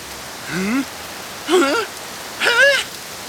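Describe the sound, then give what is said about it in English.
A steady hiss of falling rain runs throughout, with three short, wavering vocal exclamations rising above it at intervals. “It even rains in the exact spot where you are standing.”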